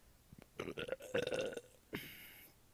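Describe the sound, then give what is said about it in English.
A long, loud, croaking burp rumbles for about a second, followed by a brief raspy breathy sound as it trails off. No talking. “It was just a bitch burp.”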